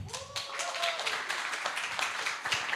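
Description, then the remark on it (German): An audience at a family day event applauds a guest appearing as Joshua's wife Bitja, with steady, dense clapping that carries on for the whole stretch, and a brief whistle-like tone rises over the clapping early on. “Deswegen einen herzlichen Applaus für Josuas Frau Bitja.”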